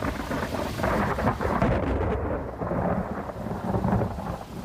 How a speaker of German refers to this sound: Dann herrscht bei Ulm ein großes Gewitter. Ein Blitz schlägt in die Spitze vom Ulmer Münster ein.